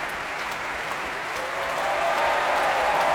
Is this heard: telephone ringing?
no